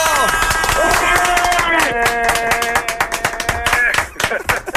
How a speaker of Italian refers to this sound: Applauso!